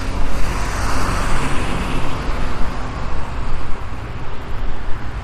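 Steady, loud road traffic noise fills the scene, a continuous roar of engines and tires with low rumble and slight swells as vehicles move past. No one is speaking.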